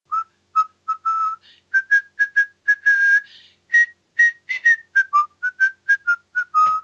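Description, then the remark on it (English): A person whistles a bright, clear tune in short, rhythmic notes with a few held ones, fairly loud, with no talking: the character Omar from The Wire walking down the street whistling. “They don't editorialise as much as that, but they do say, Omar walks down the street whistling.”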